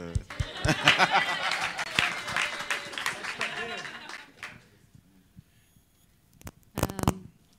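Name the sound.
audience clapping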